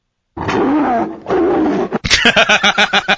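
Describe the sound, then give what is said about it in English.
Two long, rumbling tiger roars, followed by a quick series of rhythmic, grunting chuffs that pulse about seven times before fading. “Yeah, because a tiger looks at you and he just sees a bunch of honey-cured ham pressed into the shape of a thing that walks upright.”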